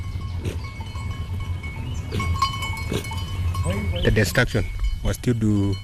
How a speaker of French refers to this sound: Il est assis, à flanc de colline, dans une large clairière. Ses vaches et ses chèvres broutent autour de lui.